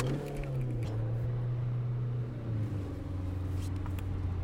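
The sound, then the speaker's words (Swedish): A small blue car's engine hums steadily from inside the cabin while driving, with a low droning tone that dips slightly in pitch partway through as the vehicle shifts speed. “Vilken rolig bil. Den är så liten så den inte märks.”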